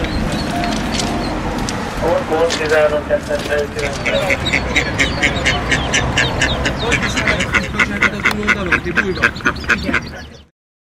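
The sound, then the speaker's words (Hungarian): A flock of ducks quacks loudly and persistently, the calls overlapping at first, then settling into a fast, steady run of repeated quacks before cutting off abruptly. “Visszajöttünk, mert azt mondta az adásrendező, hogy jöjjünk vissza a kacsák után, úgyhogy akkor visszajöttünk elköszönni.”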